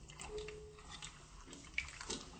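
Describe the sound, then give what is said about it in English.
Water pours steadily into a bowl of semolina flour mixture for a couple of seconds, a soft continuous splashing with a few small clinks, fairly quiet, with no one speaking. “More water, please.”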